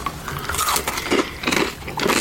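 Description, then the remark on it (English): Crunching of a crisp, sugary Japanese biscuit snack, a run of crackly bites and chews packed into a couple of seconds, with no talking. “It sounds crunchy. No, it's like a sugar biscuit type thing.”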